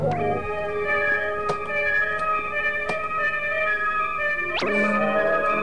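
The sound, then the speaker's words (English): A neighbor's cat caught in a door lets out a long, loud, sustained yowl that holds steady, then jumps into a sudden sharp, rising screech near the end. No talking. “The neighbor's cat caught in the door.”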